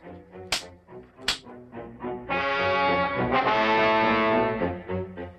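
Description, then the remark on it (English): Two sharp whip cracks about a second apart as Balaam whips his donkey to make it go faster, followed by a loud, harsh, drawn-out braying cry from the donkey lasting a couple of seconds. “The sting of this whip will put some life into you.”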